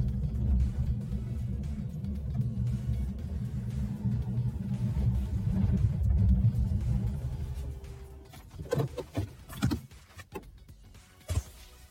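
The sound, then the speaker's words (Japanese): Someone gets back into a car: a steady low rumble fades out, then a few thumps, rustles and a door-like clunk, with one last sharp knock near the end. No one speaks. “はい、ということでですね、今醤油を足してですね車の中に戻ってきたわけですけども”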